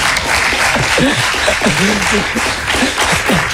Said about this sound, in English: Bon, on peut l'applaudir quand même, s'il vous plaît.